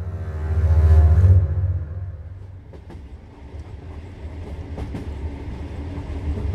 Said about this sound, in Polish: Na Ukrainę Zachodnią jechaliśmy 29 godzin. Pociąg kilkakrotnie zmieniał kierunek jazdy. Wsiadłyśmy do pociągu w stronę Karpat.